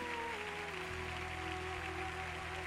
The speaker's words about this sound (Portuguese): Senhor, mas deixa fluir como Ele merece, Pode aplaudir lá em cima.